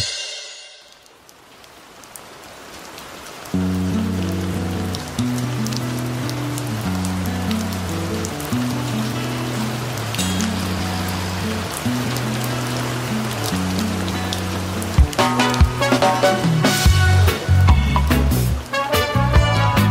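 Steady rain falls with a dense, even hiss, alone at first; after a few seconds a rhythmic music track with a repeating bass line starts up and plays over the rain.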